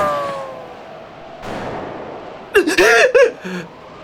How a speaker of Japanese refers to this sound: 発砲音が着弾よりこれだけ遅いのは、弾が音速よりはるかに速い証拠だ。おそらく電磁加速式の精密狙撃銃だ。